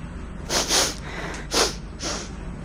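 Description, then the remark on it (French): Several wet, congested sniffs in quick succession, each a short noisy burst of air drawn through a runny nose, with brief pauses between them and no talking. “Je fais que renifler, c'est dégueu, il me faut un mouchoir.”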